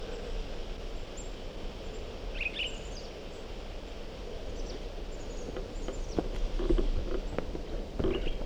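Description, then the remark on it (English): A pine grosbeak gives a few short, fairly faint calls outdoors, set against steady background noise with occasional soft thumps like footsteps. “I think it's a different bird.”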